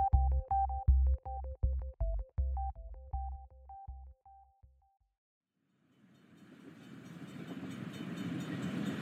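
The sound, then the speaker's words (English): A slow train on the rails: a run of rhythmic, tonal chugging beats that slow and fade out, a brief pause, then a steady rolling rumble that grows louder. No one speaks. “He only went at 25 miles an hour, which is very slow for a train.”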